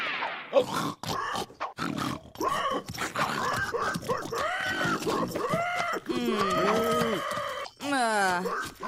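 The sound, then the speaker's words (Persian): A voice imitates a pig, making a rapid string of loud grunts and snorts that turn into higher, whining squeals toward the end. “من باید با گوز از خوک نگهداری کنم.”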